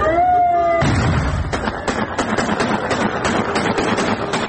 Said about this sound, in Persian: شادی اعضای حزب الله لبنان با شلیک هوایی RPG در خیابان‌های شهر.